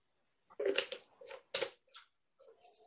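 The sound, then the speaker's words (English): A presenter giving a Zoom tutorial takes a few wet, noisy slurps of water in uneven bursts, hissy and gurgling, with short gaps between sips and no talking. “Sorry about the noisy slurp here.”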